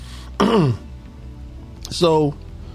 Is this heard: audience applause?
no